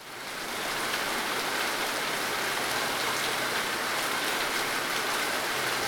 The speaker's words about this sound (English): And the rain was pouring down almost every fucking morning.